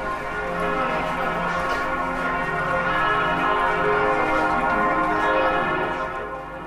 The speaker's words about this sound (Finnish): Monille suomalaisillekin Berliinin kävijöille tutun Wilhelm II:n muistokirkon kellojen pauhu kaikaa Berliinin vanhimman kauppakeskuksen Eurooppa-sentterin sisätiloihin juuri sopivasti,